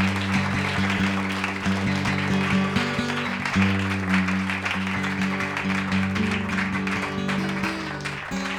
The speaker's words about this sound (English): Thank you, that section over there. They were clapping loudest. Let's see if this section over here can clap even louder.